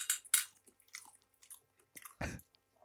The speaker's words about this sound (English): Did he just say, I'll chew to keep... Oh my God, man. I'll just chew to keep like the government happy or whatever. Yeah, the ladies. The ladies want to see me chew.